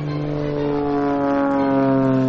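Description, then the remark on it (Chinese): A small gasoline-powered propeller airplane's piston engine drones loudly and steadily as it takes off, its buzzing harmonic tone holding constant as it powers up, with no voices present. “这是一架小型的汽油动力飞机起飞的声音，”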